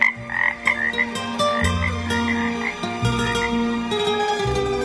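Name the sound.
toad croaking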